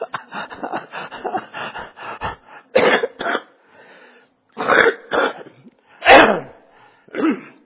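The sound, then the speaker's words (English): A person clears their throat in a quick rasping series, then gives several loud, harsh coughs spaced out by short pauses, with no talking in between. “Almost stayed home because my voice was messing up and I started coughing.”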